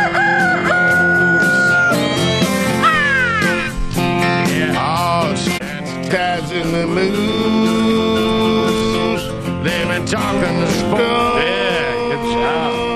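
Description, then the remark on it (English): A rooster crows loudly and repeatedly over a dense, busy musical backing that fills the whole clip, the crowing calls rising and falling above the steady mix, as part of the theme of the sports talk show Taz and the Moose. “Two bros yapping all wild while the rooster crows.”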